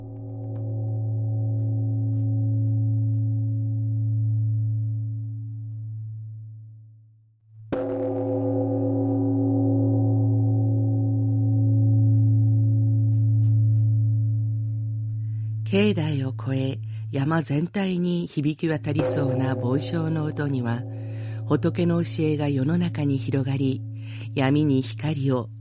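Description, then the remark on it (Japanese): A large Buddhist temple bell (bonshō), hung beside a drum in the bell tower opposite a temple's main hall and rung at 6 p.m., hums with a deep, long-sustained tone, then is struck again, its resonant boom slowly fading and still droning beneath a voice that starts speaking partway through. “しばらくすると太鼓の隣に吊るされた梵鐘も鳴らされます。”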